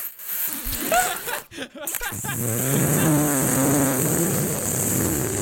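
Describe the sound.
A voice imitates the squeaky, rubbery squeezing sound of getting into a pair of waders: a short strained burst, a brief pause, then a sustained buzzing, wobbling vocal drone that stays fairly loud to the end.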